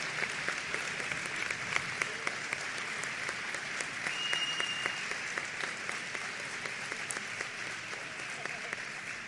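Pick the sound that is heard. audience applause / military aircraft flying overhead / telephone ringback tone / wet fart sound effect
audience applause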